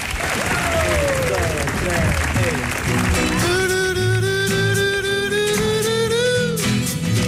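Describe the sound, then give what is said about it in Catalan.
Dense, steady applause from an audience fills the whole clip, loud and continuous, with voices whooping and calling out over the clapping in the second half. “Vinga, doncs fort aplaudiment, sisplau, també per ells que ens acompanyen avui”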